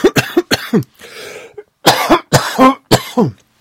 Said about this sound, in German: Oh, sorry, ey. Was ist los? Ich habe hier voll den Hustenreiz die ganze Zeit.